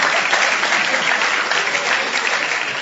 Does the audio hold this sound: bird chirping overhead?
no